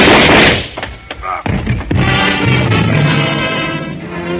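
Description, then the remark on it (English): Several sharp, loud cracks of rapid-fire 30-caliber gunshots fire off in quick succession, then give way to a dense, roaring wash of noise that lingers to the end, with no talking. “The shock of the rapid-fire 30-caliber slugs lifted him off his feet and knocked him against me.”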